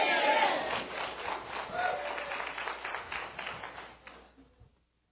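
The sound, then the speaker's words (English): A church audience shouts a big amen together over rapid, dense clapping, a loud burst of voices that holds for about four seconds before tapering off into silence. “And the church shouted a big amen.”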